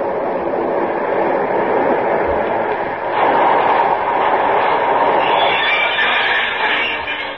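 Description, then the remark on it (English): A six-car local train pulls in with a dense, continuous rumble and hiss of wheels on rails, loud and steady throughout, swelling a little brighter halfway through. No one speaks. “Here comes the local.”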